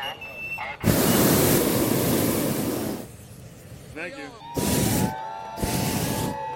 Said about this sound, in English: The Dawn Patrol pilots blast their burners in unison, and a row of 80-foot balloons glow like paper lanterns against the dark sky.